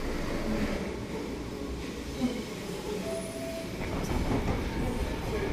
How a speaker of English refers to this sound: We're on a very noisy Mersey rail train on its way to Egbeth, which is a suburb of Liverpool, just sort of outside the middle,